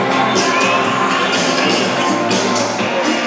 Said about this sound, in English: And the crowd seemed to even cheer the music on the video.